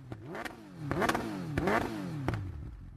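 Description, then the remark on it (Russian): A sport motorcycle engine revs up and down several times in quick succession, each rev climbing into a high-pitched, squealing whine before dropping back, with sharp clattery bursts between revs and no talking. “Ну да, я хотел вам дать звучок. А звучок должен такой быть визгливый.”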